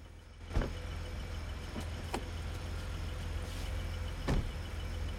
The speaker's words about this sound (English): She sits back down, and the cars pull away, leaving her looking thoughtful.